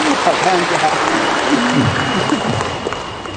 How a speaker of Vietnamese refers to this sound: Chúng ta cho một tràng pháo tay cảm ơn người anh em này.